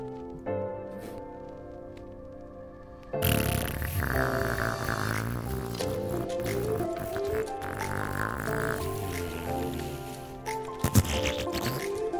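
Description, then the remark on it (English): A quieter buzzy, tonal rasp opens, then a loud, dense run of wet, squishy fart sounds follows nearly nonstop, with sharper sputtering bursts toward the end and no talking. “And this is my reel of farts.”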